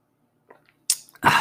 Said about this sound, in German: Jetzt muss ich mal kurz einen Schluck trinken.